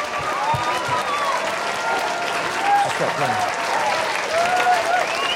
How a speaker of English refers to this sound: So I think we should, every one of us, stand and we should give God an amazing clap, cheer, thanksgiving of how good he is and how amazing he is in our lives this morning.